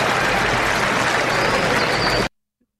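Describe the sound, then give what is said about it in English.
A crowd applauds in a dense, steady wash of clapping that holds loud for a couple of seconds, then cuts off abruptly into silence. “The applause. The crowd likes that one.”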